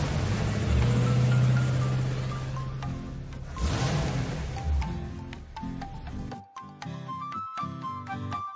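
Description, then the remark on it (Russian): A heavy glass-carrying truck, a tractor unit pulling a container-like trailer and driven by a robot, rumbles loudly and revs as it pulls away to fetch glass, the roar lasting several seconds before cutting off abruptly into a few steady tones. “Робот сел за руль стекловоза. Вперед!”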